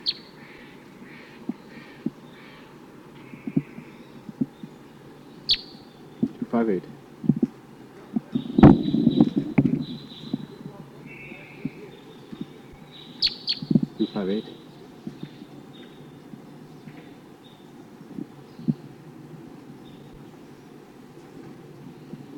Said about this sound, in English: So recording bird 258. Responding to Sitkensis type calls from the wild.